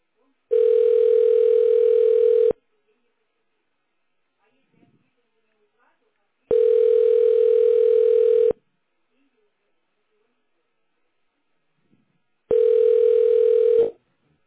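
A telephone ringback tone while waiting for an operator to answer: three steady, mid-pitched two-second tones repeating every six seconds, with silence in between and no voices.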